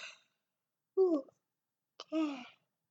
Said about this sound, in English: I'm yawning. I'm tired. Well, I'm not super tired. I'm just yawning.